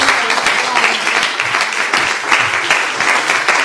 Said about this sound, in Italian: Applauso, dai, io dico...